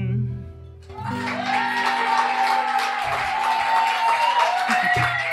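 A sustained chord of music fades out after about a second, and loud audience applause takes over, a dense, steady wash of clapping with some cheering that continues to the end.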